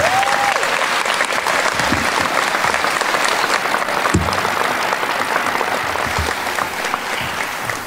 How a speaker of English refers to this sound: Our city is stronger because of your leadership and vision, and I'm looking forward to continuing the good work you began at City Hall. Let's have a round of applause for Mayor Burke one more.